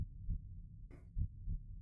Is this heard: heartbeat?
yes